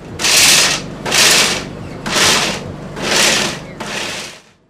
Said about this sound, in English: The blenders are still buzzing away at Riley Vose's Blend Smoothie Bowl food truck.